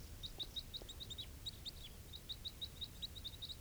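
Two birds take off with a steady run of quick, high chirping flight calls, repeated dozens of times over a low background rumble, with no one talking.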